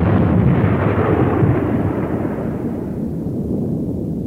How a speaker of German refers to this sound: Ein konventioneller Rückbau würde bis zu 6 Wochen länger dauern und wäre nicht billiger als eine kurze Sprengung.